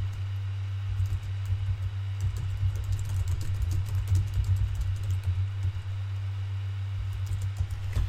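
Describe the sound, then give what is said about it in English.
Rapid, irregular keyboard typing, a steady patter of clicks lasting several seconds over a constant low hum, with no one speaking. “Hang on, typing something.”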